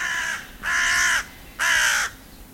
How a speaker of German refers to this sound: Rabenkrähe.